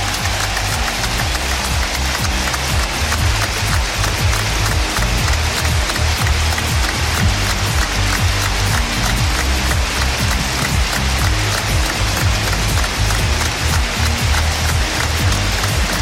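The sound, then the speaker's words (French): A large football stadium crowd, asked by the announcer to stand, applauds steadily in memory of Éric Roy as players form a circle at the centre circle; a dense, continuous wash of clapping holds an even loudness for about sixteen seconds, with no voices standing out. “On entend les applaudissements, on pense évidemment très fort à sa famille, à Éric Roy,”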